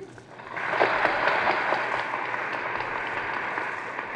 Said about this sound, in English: The Secretary of State of the United States has finished his address. The audience applauds. The great conference of the United Nations is now officially begun.